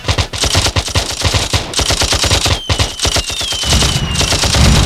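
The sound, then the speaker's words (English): Rapid automatic gunfire rattles off in loud, tightly spaced bursts, a steady stream of sharp cracks with a faint whistling tone sliding through midway before a heavier, booming stretch at the end. “Creeping up on that ass, artillery sounding like this, this, this.”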